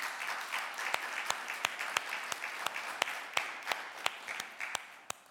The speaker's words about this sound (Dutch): Nou, om te beginnen zie ik daar twee mensen waar ik kennis mee gemaakt heb. En ik zou je willen vragen om ze een warm welkom applaus te geven.